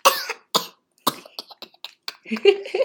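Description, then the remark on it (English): A child's voice makes a series of rough, raspy coughing bursts in imitation of a leopard's call, about three sharp ones followed by shorter huffs and a throaty growl, fairly loud. “He's imitating the sounds of a leopard.”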